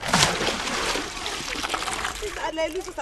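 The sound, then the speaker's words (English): Water splashes and sloshes steadily at a village well in the town of Aduna, just south of the Sahara Desert, as women and children fetch water for drinking and cooking. A busy wet spattering over about three seconds, with voices faintly audible toward the end. “Here in the town of Aduna, women and children gather at the well to fetch water for drinking and cooking.”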